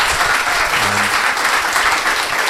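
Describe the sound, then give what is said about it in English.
Steady, sustained applause from an audience thanking a discussion panel at the end of the event, a dense wash of many hands clapping at a constant loud level throughout, with no voices standing out. “Give it a round of applause for these guys.”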